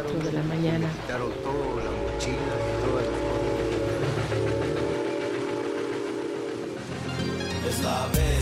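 The freight train La Bestia, running from Mexico's southern border north toward the USA, rumbles steadily past in San Miguel, Mexico, with sustained tonal whistle or horn notes over the continuous roar and clatter of wagons, holding loud throughout.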